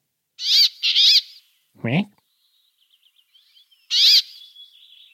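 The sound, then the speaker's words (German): A northern finch, a Nordic species closely related to the chaffinch, gives harsh, nasal quacking calls: two bursts, then one more after a pause. Soft chirps and a brief low-pitched call sound between them, all fairly loud. “Und bestes Merkmal ist aber, ihr seid irgendwie in der Feldflur unterwegs und ihr hört dieses Quäken.”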